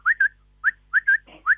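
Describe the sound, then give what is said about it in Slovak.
A person whistles an imitation of a common quail's call: short, clear rising notes, two quick ones, a pause, then a fast run of three or four, fairly loud. “A od prepelice.”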